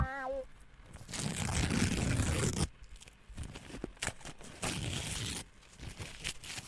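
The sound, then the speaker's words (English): Paper being torn to shreds in a studio in long, loud ripping bursts, with a brief pause between tears and smaller crinkling sounds; a short tonal chime opens it, and no one speaks. “I'm just tearing the paper in the studio to shreds”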